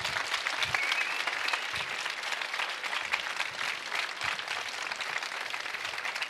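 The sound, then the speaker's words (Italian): A crowd applauds steadily, many hands clapping in a dense, even wash of sound that holds at a fairly constant level for several seconds, with no voices standing out. “Applauso per Vai.”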